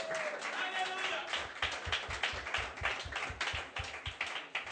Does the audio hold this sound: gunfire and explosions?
no